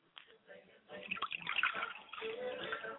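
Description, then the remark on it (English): Water is poured into a glass as a ritual libation dedicated to the spirit Yamanja, in a steady, splashing trickle that builds and carries on for about three seconds, bright and bubbling without stopping. “We dedicate this glass of water to my mother's spirit, Yamanja, I say.”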